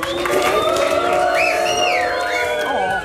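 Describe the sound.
A crowd at the 75th Fête de l'Humanité, during a live broadcast, applauds and cheers guest Madame Bettencourt: a dense wash of clapping with whoops and shouted voices rising over it, holding steady and loud for about three seconds.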